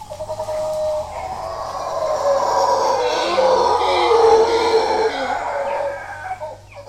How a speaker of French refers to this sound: Ça fait peur, non? Ah bah ça, vous savez ce que c'est? C'est des singes hurleurs. Ils sont cachés dans la canopée et là, en fait, ils sont à plus de 2 km du point où vous les entendez, tellement la voix est rauque et c'est terrifiant.